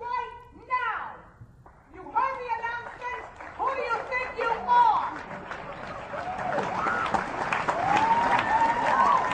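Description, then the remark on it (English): A Broadway audience at a performance of Gypsy applauds Patti LuPone after she stopped mid-song because of a photographer; the applause swells steadily underneath a babble of excited, high-pitched voices and cheers, the clapping growing thicker and louder toward the end. “And she got applause.”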